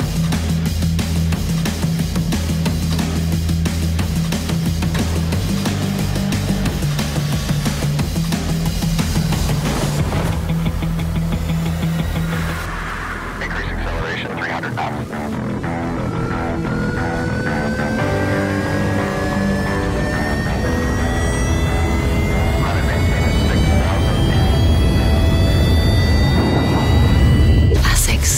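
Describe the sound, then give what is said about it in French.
Music from the latest advert for the sports brand ASICS, featuring runners in the brand's sneakers, opens on a low, steady droning chord, then breaks into climbing, whistling tones that keep rising in pitch and swell louder, like an airplane or rocket taking off. “Vous avez l'impression d'entendre un avion ou une fusée qui décolle, mais non.”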